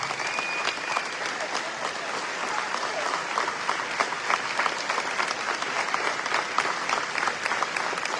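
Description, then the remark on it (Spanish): A crowd applauds the Papa Francisco hospital, whose workers and patients are present, for several seconds: a dense, even patter of many hands clapping at a constant, moderate loudness with no voices standing out. “Ahí está, bueno, vamos a aplaudirlo, porque acá están sus trabajadoras y sus pacientes.”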